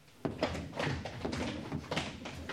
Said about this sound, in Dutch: Juichen in stilte. En stampen.